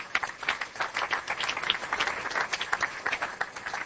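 A crowd gives a steady round of applause for the theme team, many hands clapping in a dense, continuous patter of moderate loudness that holds evenly for the whole stretch.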